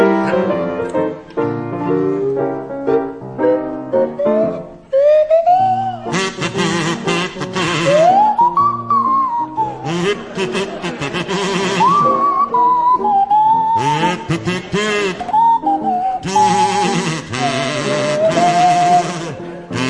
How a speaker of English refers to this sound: Now, Barry and Graham, would you please provide a rendition of … to feature Barry Cryer on the kazoo and Graham Garden on the Swanee Whistle.